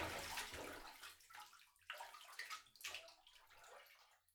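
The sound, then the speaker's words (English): Bath water sloshes and splashes in a series of bursts as someone shifts and rises out of a tub, with dripping and swishing and no voices. “Here, let me rinse you off with my other hand.”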